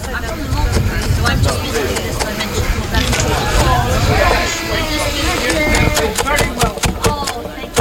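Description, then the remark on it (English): A knife taps rapidly and steadily on a cutting board, chopping fresh parsley and mint, the sharp knocks getting quicker and more regular toward the end, with murmured voices and outdoor background noise. “So I'm just going to chop up some fresh parsley and fresh mint.”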